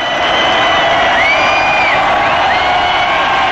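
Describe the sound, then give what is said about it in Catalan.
A dense concert crowd shouting and cheering, loud and sustained throughout, with many overlapping voices rising and falling together in a continuous roar as a song begins and some shout 'Espanyol, Espanyol'. “ara vull que estigueu molt atents, perquè sentireu els crits, sentireu com comença a sonar una cançó i després se sent algun Espanyol, Espanyol.”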